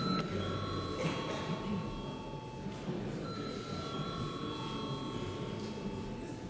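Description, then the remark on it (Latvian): A parliament chamber's electric bell rings before a vote on granting urgency to a bill, in two long, steady bursts separated by a brief gap, a sustained buzzing tone over a low murmur of voices in the hall. “Lūdzu, zvanu.”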